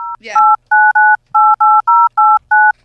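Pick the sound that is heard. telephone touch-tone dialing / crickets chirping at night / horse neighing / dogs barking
telephone touch-tone dialing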